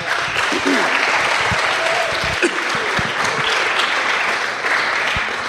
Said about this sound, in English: Round of applause. Nobody's done it yet.